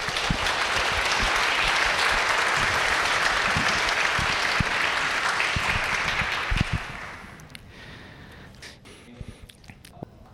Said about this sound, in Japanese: 3回のメッセージ語っていただきました。感謝の拍手をしたいと思います。